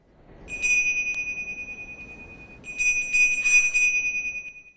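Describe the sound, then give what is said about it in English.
A boy holds a small, shiny, acorn-shaped bell up to his ear and shakes it in two bursts, giving off a bright, ringing jingle with a clear sustained tone that lingers between shakes. It is fairly quiet, with no talking. “He lifts the bell back to his ear and shakes it.”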